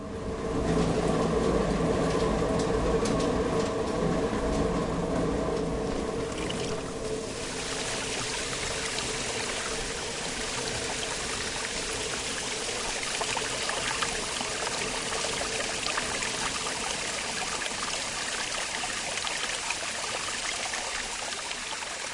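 Water rushes and splashes steadily with a droning mechanical hum of a turning watermill, rebuilt in 1981, strongest in the first few seconds. No one speaks.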